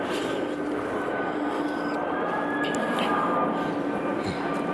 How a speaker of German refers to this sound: War mir klar, dass wenn ich hier ankomme, irgendwann auch ein Flugzeug vorbeifliegen würde. Ich will doch bloß ein Motorflugzeug